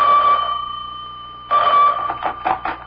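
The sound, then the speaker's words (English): An old-fashioned telephone bell rings in a house in two bursts, a steady metallic jangle fading out, then a second ring starting at about a second and a half, fairly loud, with no voices. “I was barely settled into my mother's house when the phone rang.”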